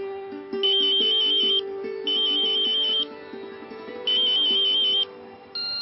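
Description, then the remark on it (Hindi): A telephone rings in steady repeated bursts, each about a second long with short pauses between, clear and fairly loud over a soft musical backdrop, as an outgoing phone call is placed. “तो देर किस बात की, लगाओ फोन।”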